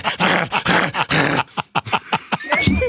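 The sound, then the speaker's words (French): A person imitates a dog barking, giving four loud, rough barks in quick succession, then trailing off into shorter, choppier vocal noises. “Quand la visite arrive, ça donnerait... Wouf, wouf!”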